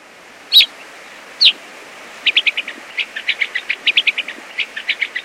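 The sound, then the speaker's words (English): Two sharp, higher chirps ring out alone, followed by a quick run of rhythmic, buzzy chew-like calls from gray-crowned rosy finches, clear against a quiet background. “Once again, the calls of gray-crowned rosy finches.”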